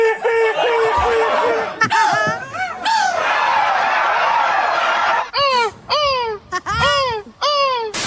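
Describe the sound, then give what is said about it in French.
A person imitates a 'castrated' seagull's cry at the world championship of seagull crying, with loud, repeated high-pitched squawks and wails, some drawn out and others short and descending, in quick succession for several seconds. “Moi, je voulais préciser que je vais faire la mouette castrée.”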